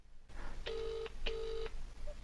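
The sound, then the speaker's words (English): A phone ringing out on the line: two steady, buzzy ringback tones, each lasting under half a second, separated by a brief gap, over a low background hum. No one answers or speaks. “It's not answering”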